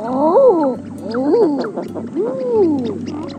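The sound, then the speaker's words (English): Three drawn-out, rising-and-falling cooing calls of an eider duck with a strangely human, crooning "ah-oo" quality, each lasting about a second, with no talking. “And the weirdly human call of the eider duck.”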